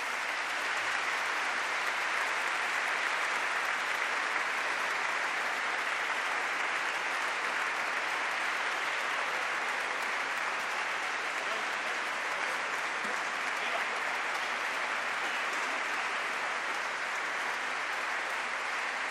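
Sustained audience applause in a 500-year-old church for composer Joan Josep Blai as he is called to the altar. It is a dense, steady wash of many hands clapping at an even volume for nearly twenty seconds, with no voices standing out.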